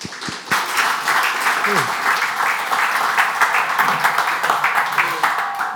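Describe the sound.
Steady audience applause in a church, welcoming a speaker, fills the whole stretch, a dense, even wash of many hands clapping at a fairly loud, sustained level, with faint voices mixed in underneath.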